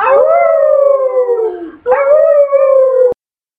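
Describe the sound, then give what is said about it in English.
Two long, wavering howls, each sliding slowly downward in pitch, voiced by young human voices imitating wolves howling from a mountaintop during a Halloween recitation, loud and alone with a brief gap between them. “Wolves howling from the mountaintop.”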